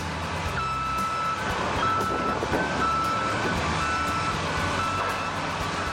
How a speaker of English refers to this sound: Our final word this week comes from the machinery used to take down Tiger Stadium on July 15, 2008.